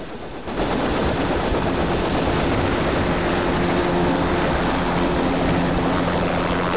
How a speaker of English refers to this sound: The pilot of the first helicopter runs across the tarmac to climb into the second, and they take off.